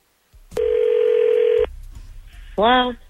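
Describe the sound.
A telephone line tone sounds once as a steady, mid-pitched electronic hum lasting about a second as hosts at radio station 102.9 The Wolf place a call, followed by a low murmur before a voice briefly answers.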